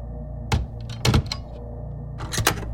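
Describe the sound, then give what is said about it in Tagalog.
The wooden door of a large wardrobe thuds shut with a few sharp mechanical clicks and clunks as it is locked, over a low steady hum. “Narinig kong nagsarang pinto ng malaking aparador at tumunog ang pagkakandado.”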